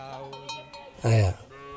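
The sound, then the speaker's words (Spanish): Cattle grazing in a field of tall grass in the Karamoja region under a blue sky: one loud, short lowing call stands out midway, with faint ringing like cowbells and a voice softly in the background. “Su ganado pasta mientras él canta bajo un infinito cielo azul.”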